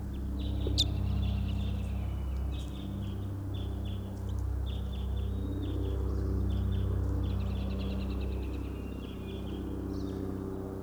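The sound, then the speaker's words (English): Faint bird calls from a type 5 bird way across a clearing repeat in short high chirping phrases throughout, carried over a steady low rumble of background noise. “Third recording, this is a type 5 bird way across the clearing.”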